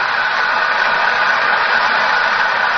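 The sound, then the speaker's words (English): Steady, dense applause from an opera audience for the soprano Gilda Valchese near the end of the opera, a continuous wash of clapping at an even, loud level throughout, with no voices on top. “Listen to the applause.”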